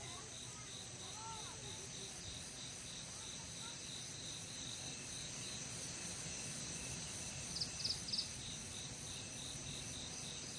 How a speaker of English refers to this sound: The village will go to bed. The crickets make a frightful racket in the rice paddies.